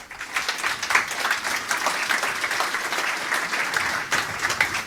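Sustained applause from an audience, a dense, steady wash of many hands clapping at once, fairly loud and even throughout with no voices over it.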